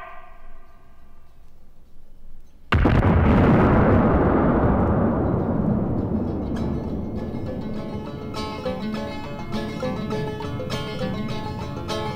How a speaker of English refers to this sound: they would drill a hole and then pack in the dynamite, light the fuse, and then run or get blown to pieces.